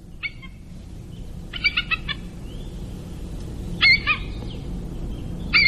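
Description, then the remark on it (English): A bald eagle gives high, thin chattering calls in quick bursts of several notes, repeated four times with pauses between, over a steady low background rumble. “And the bald eagle, obviously, such a magnificent creature, but it's kind of disappointing when you hear the sound that a bald eagle makes.”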